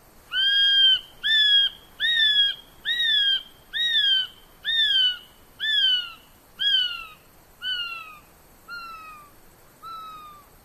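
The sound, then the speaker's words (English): A male kiwi gives a long series of about a dozen shrill, piercing whistles, each rising then sliding down in pitch, evenly spaced and gradually growing fainter toward the end. “Males and females have different calls.”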